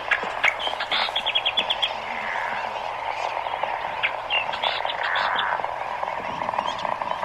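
A Nihoa millerbird, a small songbird, sings on the tiny island of Laysan, several hundred miles northwest of Honolulu, in quick, high chattering phrases with rapid repeated trills, repeating bursts over a steady low hum and faint background noise; no one speaks.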